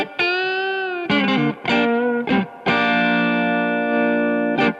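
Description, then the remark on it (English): An electric guitar through a Keeley Noble Screamer pedal, set to its Tube Screamer mode on both sides, plays a held gritty note, a few short chord stabs, then a long ringing chord, loud with no talking. “I mean, oh, I watched like one video on it, and so right now it's on Tube Screamer, both sides. So you just get that.”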